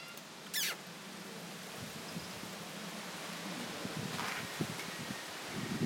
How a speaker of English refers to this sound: It's like waves, that wind. It's like being at the seaside, isn't it? It sounds like the seaside. Sea. On a rough day. Not even on a calm day.